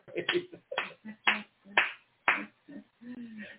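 A series of sharp hand claps during a sermon, in a steady rhythm, roughly two per second, fairly loud, with some murmuring voices mixed in beneath them.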